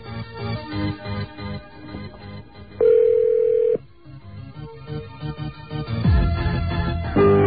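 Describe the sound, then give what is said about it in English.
A single loud touch-tone keypad beep, entering a secret code after dialling a calling card's predetermined number, holds steadily for about a second amid a murky, droning phone-line background, with no voices present. “And enter the secret code.”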